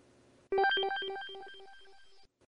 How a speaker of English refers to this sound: You might want to get that phone call, Senator. It's from Gunther von Hagen.